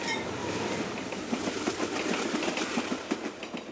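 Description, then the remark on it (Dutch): A train rolls steadily along its rails, wheels clattering in a regular clickety-clack rhythm over a continuous rumbling hum, with no voices. “Dan met de trein.”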